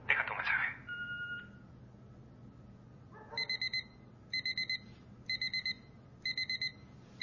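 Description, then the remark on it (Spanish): An alarm clock rings in a bedroom at dawn with a loud electronic beep, four rapid pulses per burst, repeating about once a second over a low background hum after a brief rustling noise at the start, until it is switched off. “Apaga el despertador.”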